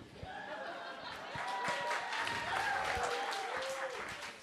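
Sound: audience clapping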